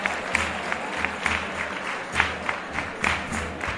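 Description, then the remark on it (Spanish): Hands clap palmas together in a steady, regular rhythm, keeping time in sharp repeated bursts with a chorus joining in, over a low murmuring crowd, as the Virgen de los Remedios takes leave of her town of Estepa. “Esas palmas también a compás que acompaña, y el coro que también entra dentro.”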